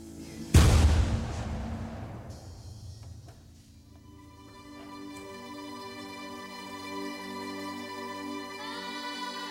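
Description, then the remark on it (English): A single deep cannon blast booms out early from outside, its rumbling echo fading slowly, followed by sustained droning tones and faint ringing layers that carry on to the end. “And then suddenly you hear a cannon outside and all these things.”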